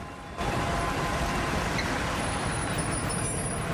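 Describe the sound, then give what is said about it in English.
The engine of a Leroy's plumbing van rumbles steadily as it drives down the street and pulls into a car park, the heavy low drone starting abruptly and holding for a few seconds with road noise, no voices. “The van turns down the street and later pulls into a car park.”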